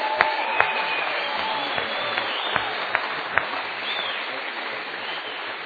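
Sustained applause from an audience fills the whole stretch, a dense wash of many hands clapping with a few sharper individual claps standing out, steady in loudness and close by.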